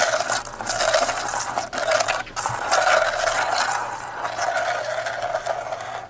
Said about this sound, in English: Okay, now we're gonna spin the globe and spin it.